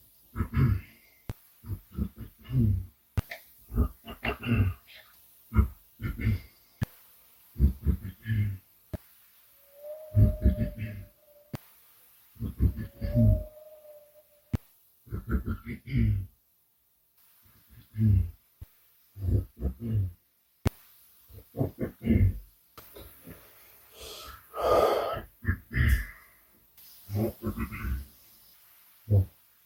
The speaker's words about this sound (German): Ja, und ich bin absolut ehrlich zu euch, ich habe nicht mal die Hälfte der Räusperer hier mit reingenommen. Wirklich so im 20-Sekunden-Takt über 15 bis 20 Minuten lang.